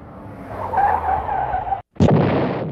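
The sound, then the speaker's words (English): A car screeches in with loud skidding tires as it pulls up in front of an orphanage building, a sustained squeal over engine rumble, then a brief gap before a harsh burst as it jolts to a stop. “All the kids turn to the car pulling up in the front of the building.”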